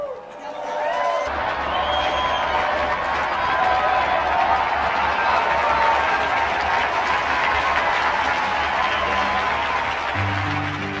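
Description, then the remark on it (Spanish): An audience breaks into loud, sustained applause in honour of Saint Amos, starting abruptly and keeping going for about ten seconds, dense and steady, with a murmur of crowd voices mixed in. “Unidos pues a quienes con coraje proclaman la justicia de Dios, brindemos nuestro vivo aplauso a San Amos.”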